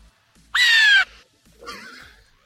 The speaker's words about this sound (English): Better. I hear that one. Yeah. Hearing that one, that's more of a hawk for sure.